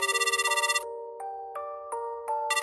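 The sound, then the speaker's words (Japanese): An electronic telephone ringback tone plays through a line as a caller waits for a woman to answer: a fast warbling trill, then a few stepped beeping notes about a third of a second apart, then the trill again. Clear, steady, no voices. “わかった電話してみるよ。今呼び出し中。”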